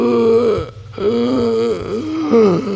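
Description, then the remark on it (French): A voice imitates a cardinal's hoarse, labored breathing: three drawn-out, raspy voiced breaths with strained groaning tones, separated by brief pauses, fairly loud. “On entend que sa respiration, qui est rauque, et dur.”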